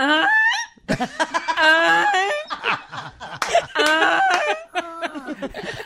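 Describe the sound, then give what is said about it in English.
Someone imitates a goose, letting out a loud run of nasal, honking calls in quick uneven bursts, some rising and stretched, others short and choppy, with no talking in between. “I do a goose.”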